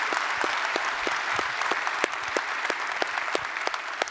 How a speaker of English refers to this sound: Just welcome them. Would you do that by applause? Thank you for being here.